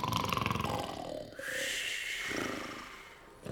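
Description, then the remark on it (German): Two elephants in a zoo trumpet back and forth in the evening as goodnight calls, loud: a throaty, pulsing rumble at first, then a long brassy blare that holds and wavers before a brief pause and another call. “schwatzen noch ein wenig in ihrer Elefantensprache, ein freundliches Gute-Nacht-Terreau, und dann ist Ruhe im Zoo.”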